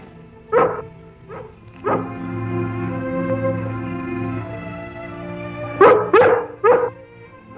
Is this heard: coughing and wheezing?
no